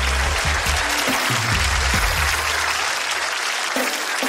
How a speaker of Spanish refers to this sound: Lo que me da más gusto es que solo las mujeres han aplaudido.